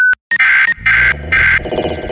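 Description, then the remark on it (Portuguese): A short, high electronic beep sounds alone, then gives way to loud, harsh bursts of layered synthetic tones that stop and start in a chaotic jingle. “Após o bip, o Lepopcast continuará normalmente.”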